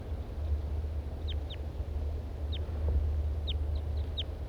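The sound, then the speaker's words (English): Two male birds call from the trees overhead in short, high, down-slurred chirps, about seven of them spaced irregularly, over a steady low rumbling background. “Now both males are here above me in the trees.”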